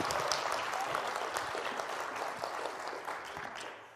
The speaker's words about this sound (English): Can we give them a round of applause as well?